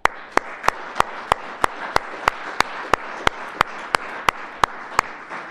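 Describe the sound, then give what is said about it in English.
An audience applauds in praise of Jesus, a dense wash of clapping underneath a sharp, steady clap that repeats about three times a second for several seconds, with no talking over it. “Maybe this sounds nuts, but I want to give him a round of applause right now.”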